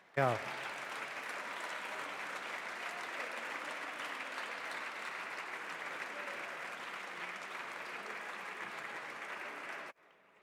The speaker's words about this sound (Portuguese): Portugal acaba de ser eleito membro do Conselho de Segurança da ONU à primeira e julgo que isso merece o aplauso de toda a Câmara.